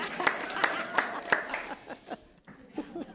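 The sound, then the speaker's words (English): Audience applause and cheering at a Commonwealth Club panel event: a dense wash of clapping with a few sharp, evenly spaced claps standing out. Laughter and voices are mixed in, and the applause thins out partway through. “I think we were cheering the loudest.”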